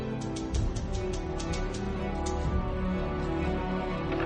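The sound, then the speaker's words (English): A typewriter clacks in a quick run of sharp, evenly spaced keystrokes as a woman types at her desk in a newsroom, fading after a couple of seconds, with a steady layer of music underneath throughout. “In the newsroom, Loretta sits at her desk, typing.”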